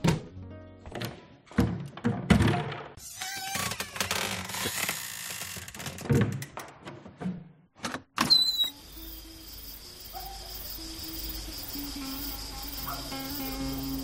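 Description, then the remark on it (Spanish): Clicks, rattles and thumps of a balcony door being worked open in the dark, then a sharp burst as it is thrown wide open, letting in a steady outdoor night hum with chirping insects. “El joven se incorpora y se dirige a oscuras al balcón como quien busca una última bocanada de aire y abre la puerta de par en par.”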